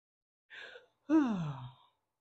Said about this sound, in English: Well, anyway, excuse me for yawning. We're gonna push through.